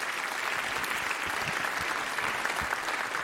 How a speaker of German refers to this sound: Ich würde mal sagen, einen Applaus. Ja, danke.